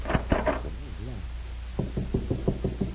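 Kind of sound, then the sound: household object, knocking on a door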